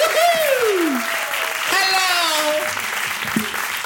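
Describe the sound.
An audience claps steadily and densely throughout, a continuous crackling wash of hands, while voices call out over it with rising and falling tones.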